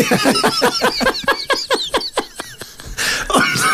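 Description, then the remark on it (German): A donkey brays loudly, a rapid run of rasping, rhythmic heaves that rise and fall before ending in a final harsh, breathy blast. “Esel, wir haben auch einen Esel. Und dies Esel ist naked. Unser Esel klingt irgendwie wie ein angezogener Elefant.”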